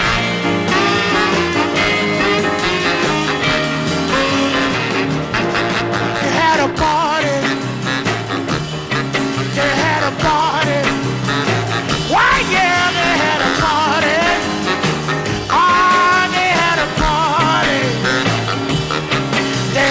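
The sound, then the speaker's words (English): A blues record released on the Federal label plays loud and full for the whole stretch, with a steady band backing and a raw, bending vocal line riding on top. No talking over it. “It's called …, and it came out on the Federal label.”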